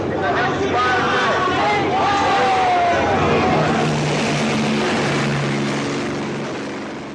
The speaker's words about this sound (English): places like the University of California, Berkeley, where famously a helicopter flew over a crowd in a plaza and dropped CS in a giant cloud out of the helicopter.